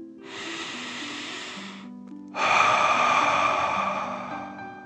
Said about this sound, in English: Before we begin our story, let's relax with 3 deep dragon breaths. Breathe in through your nose, filling up your belly, and then out through your mouth, imagining you're breathing fire. Ready? Okay. Deep breath in and out.